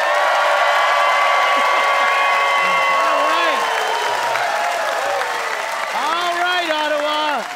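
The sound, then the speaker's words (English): A crowd applauds loudly and steadily for several seconds at a high-speed rail debate on CBC Radio One's The Debaters, with scattered cheers, high whoops and voices shouting over the dense clapping. “Big hand for Ron Sparks and the one and only Leonard Chan, everybody.”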